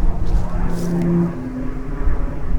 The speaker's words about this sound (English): And now we got a plane flying overhead, killing my buzz.